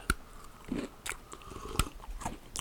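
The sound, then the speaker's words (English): Someone bites into a hard biscotti and chews, with several sharp, dry crunches spread irregularly over a few seconds, the loudest snaps at the start and end, and no talking. “Got that biscotti ASMR right now.”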